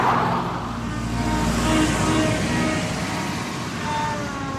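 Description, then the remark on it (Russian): A taxi's engine rumbles steadily, its tone shifting slightly as the car jerks into motion and drives off, with broad road noise throughout and no voices. “Машина рывком тронулась с места.”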